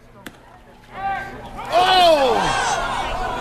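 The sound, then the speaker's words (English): A single sharp click, then scattered voices swell into loud, sustained cheering and shouting from a baseball crowd at Municipal Park in Tupper Lake, where the Tupper Lake River Pigs were playing the New Hampshire Wild, holding strong to the end. “I went to the baseball game last night at Tupper Lake.”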